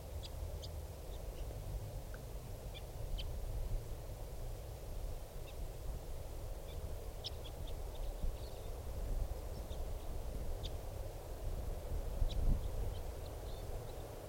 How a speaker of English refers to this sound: Here's the bird.